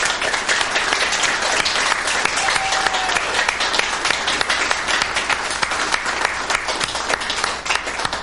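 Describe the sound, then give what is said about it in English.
At a church service, an audience breaks into sustained applause for individuals who have worked diligently, dense and steady for the whole stretch, with many hands clapping at once in an even wash of sound and no clear talk over it. “And let us now applaud these individuals who've worked so diligently.”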